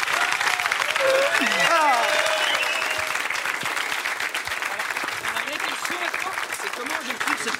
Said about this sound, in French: Allez, on applaudit.